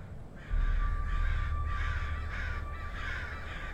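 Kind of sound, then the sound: bird, crows cawing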